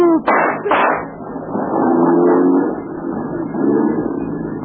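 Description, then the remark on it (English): A car engine sputters to life with a couple of sharp bursts, then settles into a loud, steady running rumble with rising revs. “Man, what a car.”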